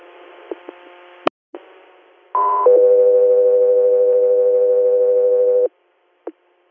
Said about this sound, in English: Scout 3 Air, stand by for tones.